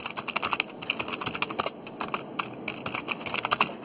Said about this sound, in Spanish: Está escribiendo por teclado, ¿eso? Se escucha el...